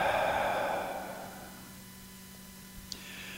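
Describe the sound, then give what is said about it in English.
A single long, breathy exhale during a breathing exercise, fairly loud, rushing out and fading over about a second and a half, followed by quiet room tone with a faint tick near the end. “And exhale.”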